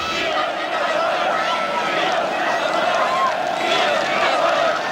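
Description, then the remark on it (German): About 70,000 demonstrators marching peacefully one evening through Leipzig's city centre in East Germany, filmed by opposition members: a steady, dense roar of many voices, a continuous murmur of shouting and calling, including the call "Wir sind das Volk", that never drops away. “Zum Glück haben einige Oppositionelle diesen Zug gefilmt und uns so ja ein bisschen von der Stimmung dieses Abends konserviert.”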